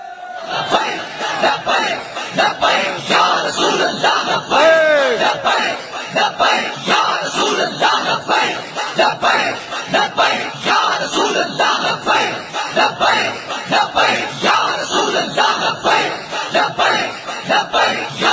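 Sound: crowd chanting slogans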